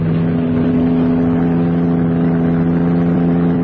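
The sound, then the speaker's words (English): A sports car's engine roars loudly and steadily as it drives past on Valley Road, a deep humming drone with strong low tones that holds throughout without any voices. “What the devil is that? Sports car. Going past the car.”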